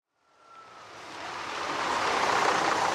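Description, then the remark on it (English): A school bus draws closer as it arrives, its broad rushing hiss swelling steadily from silence with a faint squealing tone near the start, growing loud and full by the end. No voices. “The school bus is here.”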